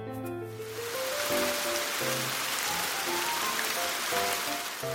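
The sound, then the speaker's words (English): Steady rain falls in a dense, continuous hiss that holds an even level for the whole stretch, with faint low tones drifting underneath at the start. “It's raining.”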